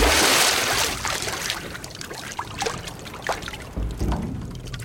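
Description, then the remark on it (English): The body of a dead chestnut mare, Saoirse, is placed into boiling water in a cauldron: a loud initial slosh gives way to steady bubbling and intermittent splashes, continuous, with no voices. “Bran places the dead horse into the boiling water.”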